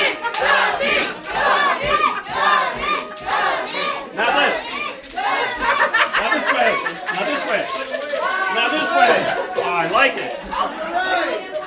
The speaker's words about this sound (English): Oh, I like it. I like an enthusiastic crowd.